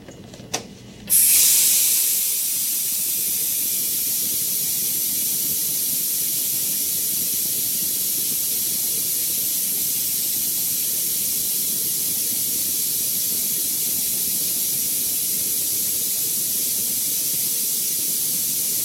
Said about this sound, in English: This lubricator bowl has been filled with tinted water. Please notice the water transfer from the lubricator into the application dryer and then into the air as it exits the blowgun.